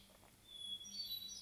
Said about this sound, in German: Du hörst viele verschiedene Vögel rund um dich. Lausche ihren Gesängen, bleib gerne stehen und hör ihnen zu. Nimm wahr, was für ein wunderschönes Lied sie für dich singen.